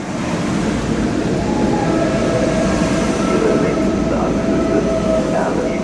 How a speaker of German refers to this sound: Erfurt Hauptbahnhof. Der Zug von Berlin nach Wien sollte schon vor einer Viertelstunde angekommen sein.